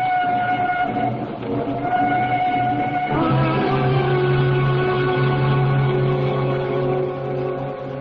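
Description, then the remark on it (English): A train bound for Waterloo rumbles steadily along the rails, loud, with sustained whistle-like tones sliding in pitch over a continuous low mechanical roar and no voices. “There's a train which will bring me into Waterloo at 8.”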